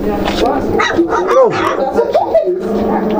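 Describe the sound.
Two small puppies yapping and growling, a quick run of high, squeaky barks and rising whines, overlapping one another, with a person talking alongside.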